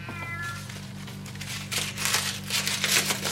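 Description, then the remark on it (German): After a brief high cry from a tomcat at the start, a paper ball crinkles and rustles as it is unfolded, in a series of irregular bursts that grow louder toward the end, over a steady low hum. “Ein Papierball.”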